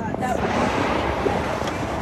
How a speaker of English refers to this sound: On the island of Maui, boats dart across the water every day.